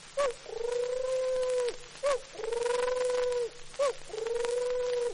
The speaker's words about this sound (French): La tourterelle.